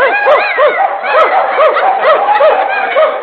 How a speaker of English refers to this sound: Oh, there are the dogs, all hitched up there. Hello, doggies.